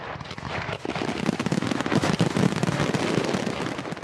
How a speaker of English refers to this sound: Those are the fireworks.